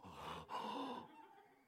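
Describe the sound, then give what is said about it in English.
A voice imitates the shocked gasp of a crowd after a person fell over: one sharp, breathy intake of air that trails off into a softer exhale, fairly quiet, with no words spoken. “One time, this one person fell right over here, and you could hear, boop, just like a sack of potatoes fall on, you know, and everybody went gasped like this.”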